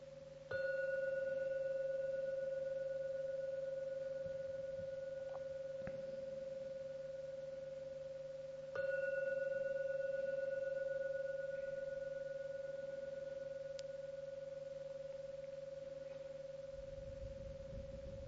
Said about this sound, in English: Now ring the gong 3 times. When the gong finishes sounding for the 3rd time, it's a signal to come out from your meditation.